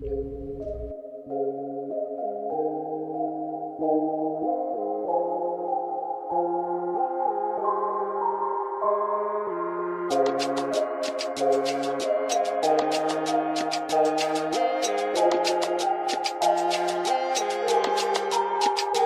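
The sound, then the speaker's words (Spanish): An instrumental song intro opens with sustained, layered melodic chords; about halfway through, a steady beat of crisp percussion kicks in and the music grows fuller and louder, with no voices. “una canción para que justamente les anime y les deje totalmente empoderadas”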